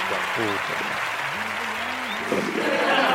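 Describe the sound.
A steady wash of canned applause, played from a studio's sound effects, fills the whole stretch at an even level while a voice talks faintly over it.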